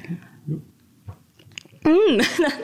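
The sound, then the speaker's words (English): Soft chewing on a 3D printed raspberry made of soft, jelly-like droplets with artificial flavorings, a few muffled squishy bites, followed by a loud, wavering hum of a voice savouring the taste. “Okie dokie, I'm going to try my first ever 3D printed raspberry.”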